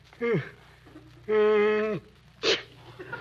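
A man sneezes up close: a short voiced gasp, then a long, drawn-out 'ahhh' build-up, ending in one sharp, breathy burst. No other sounds around it.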